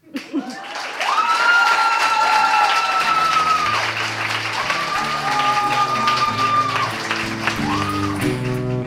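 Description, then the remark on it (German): An audience at a competition breaks into sustained, loud applause at the end of a performed text as it picks a winner; the applause begins after a short moment and continues steadily to the end, with some tonal, music-like sounds running beneath the clapping. “Applaus, bitte.”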